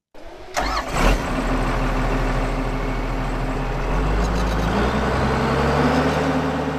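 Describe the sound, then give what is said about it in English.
A power haul, a big tractor with a 10-ton cane bin on the back used for the sugarcane harvest in Mossman, cranks and starts with a brief whine, then settles into a loud, steady low rumble that continues throughout, with no talking. “I'm 27 years of age and I'm here in Mossman driving power hauls for the sugarcane harvest. A power haul is essentially a big tractor.”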